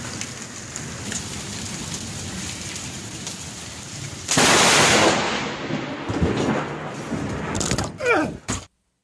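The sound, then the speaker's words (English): Steady heavy rain patters, then a sudden, deafening crack of lightning striking close to a man recording it on his phone explodes across everything, followed by a loud rumbling roll that slowly fades under the downpour before cutting off abruptly. “It did not actually strike him, but it was enough to cause partial paralysis, temporary, and also temporary hearing loss.”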